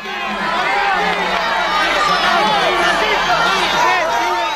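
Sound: crowd screaming and cheering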